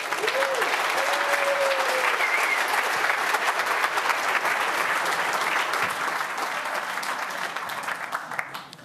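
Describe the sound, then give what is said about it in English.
Sustained applause from a talk audience welcoming speakers from Positive Technologies, a dense wash of clapping that holds steady for several seconds before tapering off at the end, with a few faint tonal whistles near the start. “Applause.”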